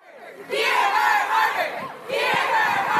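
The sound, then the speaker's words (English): A crowd of protesters, mainly women students at Harvard University, chants the slogan "Hear her, Harvard" in unison against Harvard's restrictions on single-sex social organizations, loud voices rising in two bursts with a brief dip between, the shouted words overlapping in a rhythmic group cry. “Shouting, "Hear her, Harvard," the protesters, mainly women, many belonging to all-women final clubs or sororities, say Harvard's restrictions would deprive women of spaces away from men.”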